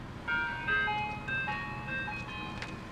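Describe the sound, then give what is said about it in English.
A tinny, music-box ice cream truck jingle plays a bright repeating melody, with a low engine rumble underneath as the ice cream truck rolls past at sunset. “There's a sunset, they're driving off, and an ice cream truck rolls by.”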